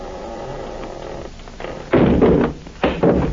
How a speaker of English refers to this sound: Now listen, I'm going to shove the door open, shine my light in.